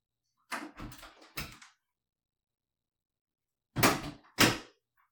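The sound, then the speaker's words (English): A door being opened, with a quick cluster of rattling, knocking handle and latch sounds, a pause, then two heavier thumps as it swings and settles. No voices. “Oh, hey, the door's open. Come on in.”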